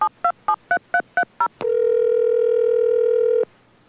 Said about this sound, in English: This is NU6P emergency auto dial. West Valley Fire.